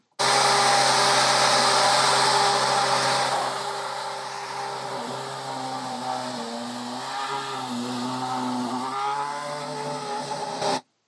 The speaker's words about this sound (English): Now, that might have been a little bit difficult to hear, but do you know what car that is? Yeah, the Force India Formula One car 2012. That was at an airfield in the United Kingdom. I think it might have been Bruntingthorpe. Absolutely. Spot on.